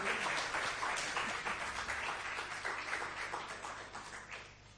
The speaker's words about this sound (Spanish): Un aplauso para Alejandra Bermejillo, por favor, que siempre nos ha representado tan bien en todo el país.